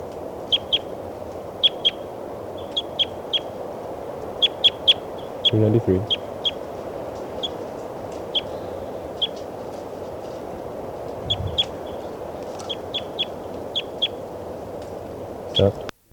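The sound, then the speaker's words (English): A bird, recorded as bird 392, calls with short, high-pitched chirps in quick clusters of two to four, repeating throughout over a steady low rumble, with a couple of brief dull thumps. “Recording here, bird 392.”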